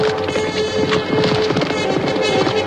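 Horses gallop away from a palace in the dark, a loud, dense rush of rapid hoofbeats that drum continuously and overlap, with a steady low hum running underneath and no voices.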